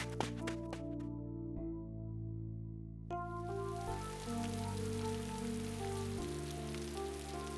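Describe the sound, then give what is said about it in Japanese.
Steady heavy downpour rain hiss sets in a few seconds in as the weather suddenly breaks, continuing as a dense, even wash beneath sustained, prominent musical chords; no voices are heard. “9月23日、心の中は土砂降りの大雨。”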